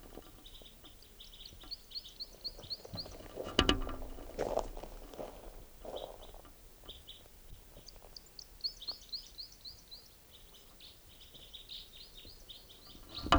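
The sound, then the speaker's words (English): A bird calls in quick, high-pitched chirping runs, several bursts repeating over a steady low background, with a few louder thumps and rustles partway through. “Where's that bird?”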